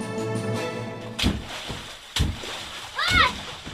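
Children splash in water filling a large garbage bin in a slum in the Kalindi Kunj area of Delhi in scorching heat, with three bursts of sloshing at uneven intervals, over a steady tonal background and a child's high, rising call near the end.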